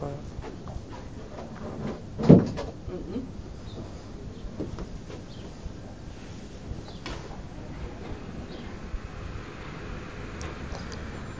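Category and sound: household object, door being shut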